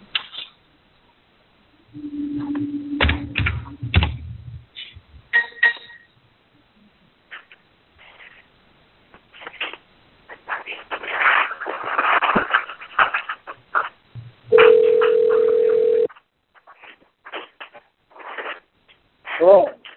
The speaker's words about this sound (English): Bear with me. I'm going to bring Representative Kurzanowski in here. So you'll hear a phone dialing.